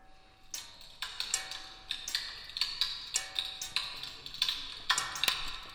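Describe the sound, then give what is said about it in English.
Amplified crackling of water freezing and defrosting as it crystallizes in a freezing machine: sharp, bright clicks and pops arrive in irregular clusters over a faint steady hiss, some ringing briefly with a glassy tone. No talking. “With Arnaud, it is the freezing and defrosting of water, the crystallization process of it.”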